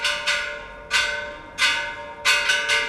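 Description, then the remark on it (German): A church bell is drummed rather than struck, beaten in quick irregular strikes, some doubled in rapid pairs, each ringing with a bright metallic tone that hangs between hits, with no voices. “Und dann wird auch schon mal die Kirchenglocke getrommelt statt geschlagen.”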